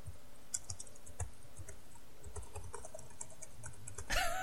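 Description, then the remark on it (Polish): Toshiba laptop keyboard keys, held up to a microphone, are pressed in a loose, irregular run of soft, dull clicks, quiet and without speech, ending in a brief louder burst of noise. “Przesuń do mikrofonu go i powciskaj klawisze.”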